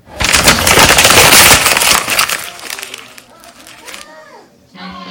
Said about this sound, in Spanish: Cuando aplastas algo. ¿Pero qué algo? Papel. Bien hecho. Aplastamos un papel, pues perfecto, un aplauso.